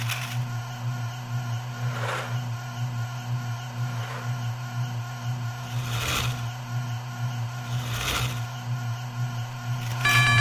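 A steady, droning mechanical hum of active brakes runs throughout at moderate loudness, with brief whooshing swells recurring roughly every two seconds and no voices.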